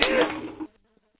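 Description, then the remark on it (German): A fly buzzes in a short, loud burst of about half a second, then cuts off abruptly, leaving near silence with a faint trailing hum. “Und alles nur wegen dieser blöden Fliege.”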